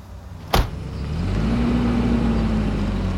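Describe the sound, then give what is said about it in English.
A sharp thump like a car door shutting, then a car's engine revs up as it drives away, its droning pitch rising and holding steady and loud. No one speaks. “Dare drive away in that fucking car.”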